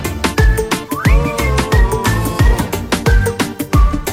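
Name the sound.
whistling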